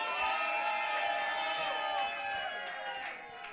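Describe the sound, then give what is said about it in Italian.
An audience at a poetry slam event applauds and cheers loudly and steadily for a poet introduced as a two-time Italian poetry slam champion: dense clapping mixed with raised voices and whoops, fading slightly toward the end. “Un grande applauso”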